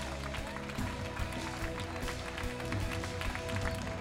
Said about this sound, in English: Come on, let's give them a great round of applause as they go.